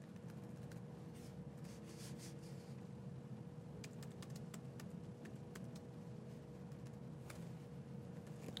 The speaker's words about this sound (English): So while you're typing that, just to kind of recap here, I mean, this is utilizing the Azure CrossPlat CLI tools, right?